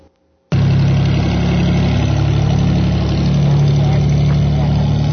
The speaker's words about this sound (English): I think this is... 206. This is a plane taking campers back home on Friday.